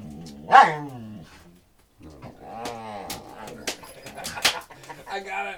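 A female pup lets out a loud, high whine, falls quiet briefly, then keeps up a run of whimpering, grumbling growls mixed with short sharp vocal bursts.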